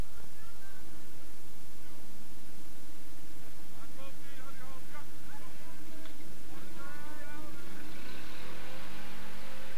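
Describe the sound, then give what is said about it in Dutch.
A car engine revs and accelerates as the vehicle pulls away, a steady low rumble under broad road noise, with indistinct voices faintly in the background. “Het bandje gaat verder, je hoort het wegrijden van de auto”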